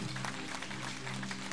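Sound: audience clapping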